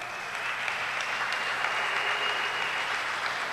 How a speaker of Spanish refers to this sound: Quiero presentarles al niño del pozo. Damos un aplauso a Dios por su vida.